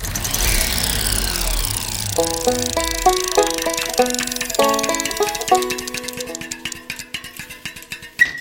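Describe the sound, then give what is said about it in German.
A printer prints out a photo of a gear segment, running with a broad mechanical whir, then shifting motor whines that jump between pitches in short steps, ending in a stretch of rapid ticking. No one speaks. “Kannst du mal den Drucker anschalten?”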